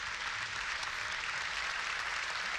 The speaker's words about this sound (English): They're all rising to their feet now. And we would expect that the people we saw coming up the stairs, led by the Ciaran Corla, are going to come down the stairs and into the chamber, and the applause has begun. And so a standing ovation there